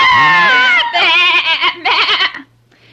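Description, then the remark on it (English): A lamb bleats loudly, three quavering, wavering cries in quick succession, the first long and drawn out, before fading into near silence. “The lamb bleated, the dove fluttered, and Snow White hid herself behind her mother's bed.”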